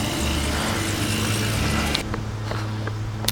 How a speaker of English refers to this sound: There's more lawn equipment. Get past.